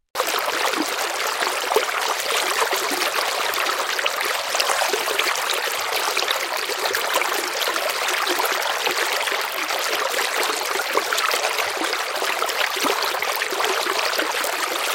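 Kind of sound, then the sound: nature, flowing river water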